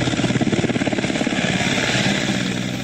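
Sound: helicopter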